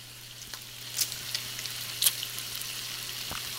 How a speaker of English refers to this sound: Oh, excuse me, I was just frying up a little bacon here. Yeah, I can take care of that later.